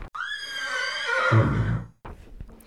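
A horse whinnies loudly, one long, shrill, quavering neigh that drops in pitch into a breathy snort, followed by a brief low rumble.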